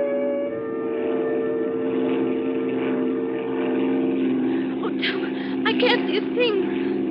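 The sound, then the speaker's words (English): A propeller airplane engine drones steadily and loudly throughout, flying in rough weather and about to land, a constant humming roar as if heard from inside the cabin, with brief voices rising over it near the end. “Now, don't worry. I don't need lights to land.”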